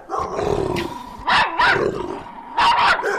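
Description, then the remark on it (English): Dogs growl steadily, broken by loud, sharp barks that come in two quick pairs over a few seconds. “Dogs are not happy with Michael Vick coming back, but the NFL probably will be.”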